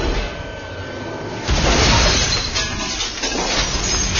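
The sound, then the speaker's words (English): A loaded truck dumps its cargo of glass into a big hopper at one end of a tractorless semi-trailer: after a low rumble, a loud, sustained crash of shattering, clinking shards begins abruptly and keeps churning, with no voices. “Meanwhile, the loaded truck pulled up beside a tractorless semi-trailer and dumped its cargo of glass into a big hopper at one end.”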